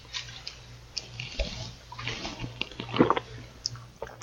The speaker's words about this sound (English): Listen to that gulp.